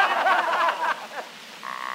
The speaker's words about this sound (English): What's that? What the devil is that noise? It's that Irishman in up the forest snoring.